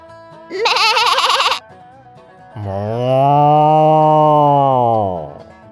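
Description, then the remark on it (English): A quavering sheep bleat sounds briefly, then after a short pause a cow lets out one long, deep, steady moo. Both are loud, with no talking. “The sheep's in the meadow, the cow's in the corn.”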